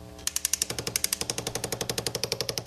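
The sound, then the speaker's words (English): A hammer handpiece on a tool called a Fortum rapidly taps a hand-forged metal clasp to texture it, in a fast, steady stream of sharp metallic clicks over a whirring motor, loud, with no voices. “I'm about to texture one of our hand-forged clasps using a hammer handpiece in a tool called a Fortum.”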